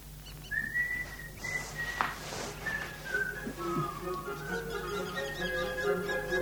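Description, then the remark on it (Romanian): A person whistles a wandering melody, clear, with sustained notes that slide and shift pitch over several seconds, no talking. “Data aceasta nu vei auzi decât fluieratul meu.”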